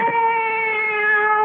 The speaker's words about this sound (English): Cat. She's back.